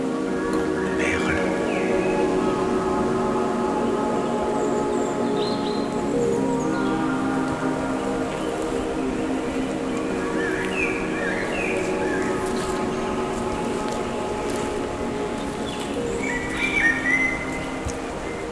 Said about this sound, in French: Quelques oiseaux solistes.